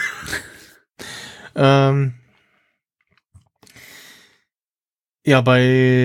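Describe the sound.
Two loud sneezes, each preceded by noisy, breathy inhales and ending in a sharp, voiced 'choo' burst, separated by a short quiet pause.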